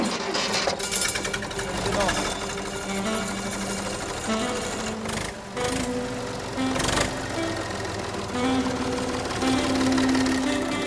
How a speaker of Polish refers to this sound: który ma 56 koni mocy i tym ciągnikiem pracujemy w polu